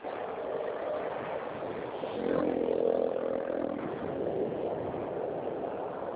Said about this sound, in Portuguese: tá passando o caminhão.